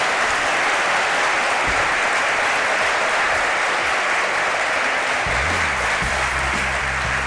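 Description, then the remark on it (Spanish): Sustained audience applause for Miguel Pedrero at an event in Mieres, a dense, even wash of many hands clapping at steady loudness for several seconds, with no voices over it. “Pido un aplauso para Miguel Pedrero.”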